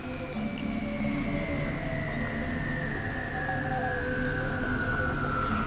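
whale call

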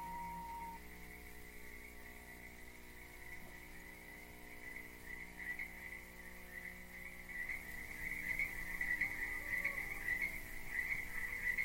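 crickets chirping

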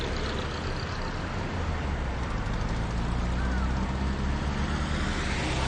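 road traffic passing

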